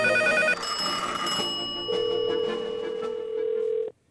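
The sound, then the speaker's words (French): A telephone rings at the start of the 'Les insolences d'un téléphone' call by Pierre-Luc Funk, with bright electronic tones over layered musical sounds, settling into a steady sustained tone before cutting off abruptly. No one speaks. “Les insolences d'un téléphone.”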